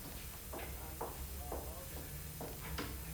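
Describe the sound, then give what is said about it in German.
About six knocks on a door, evenly spaced at roughly half-second intervals, fairly faint over a low steady background hum, with no talking. “Haben Sie geklopft? Ja, klingelt ja nicht.”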